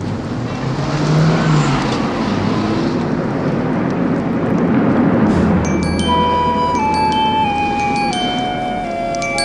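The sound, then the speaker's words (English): Jim's car drives off with a steady engine rumble and road noise, fairly loud throughout, while fuel pours from its tank onto the ground. High ringing tones join in over the last few seconds. “As Jim drives away, fuel from the car's tank is pouring onto the ground.”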